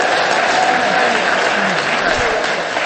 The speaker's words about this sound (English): Nope, here she comes. Big round of applause, my love.